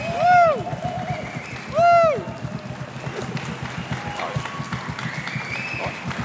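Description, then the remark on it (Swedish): A Göteborgskyrkan church audience claps for Jesus in its new House of Gospel venue in steady, dense applause, with two loud rising-and-falling whoops of cheering early on and scattered voices calling out over the clapping. “Hur låter en Göteborgskyrkan applåd för Jesus i House of Gospel-lokalen?”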